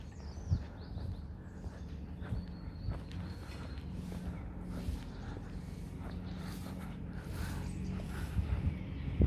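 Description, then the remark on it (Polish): Outdoor garden ambience: repeated scratchy rustling strokes of grass being raked over a low, steady engine drone as someone mows, with a few faint bird chirps in the background from birds flying in the sky. “Ktoś tam sobie grabi trawę, ktoś tam sobie kosi. Ptaki latające po niebie.”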